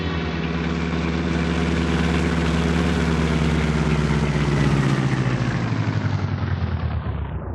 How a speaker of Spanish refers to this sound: Julián Calderón detiene el carro a cierta distancia de la casa de Ana.